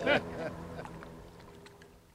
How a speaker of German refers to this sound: Ja, also, jetzt geht das Motorboot auch schon wieder.